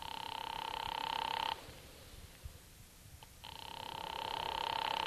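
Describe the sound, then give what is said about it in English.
A telephone ringing tone heard over the line as an operator rings Charlie Briscoe's number: a steady, buzzy ring that stops for a couple of seconds of near silence, then starts again. No one speaks and there is no answer. “I'm ringing. Well, keep it up.”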